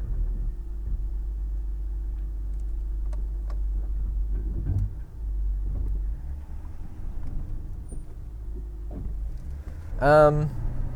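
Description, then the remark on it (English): A car engine idles with a steady low rumble and a few faint ticking clicks, then near the end a short rising whine as the car shifts into reverse and starts backing up. “Just going to hit reverse.”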